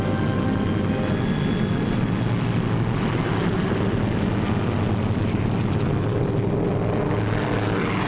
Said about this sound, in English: Then we heard the roar of engines as the Pathfinder ships began hopping off.